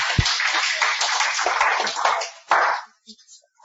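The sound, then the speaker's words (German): A burst of audience applause, dense crackling claps from many hands that swell for a couple of seconds, then thin out into a few scattered claps before fading. “Danke, Applaus, habt ihr gut gemacht.”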